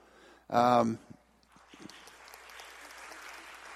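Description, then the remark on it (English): A brief loud vocal burst, then a crowd breaks into steady applause that continues to the end, a dense patter of many hands clapping at moderate volume. “Who started that applause?”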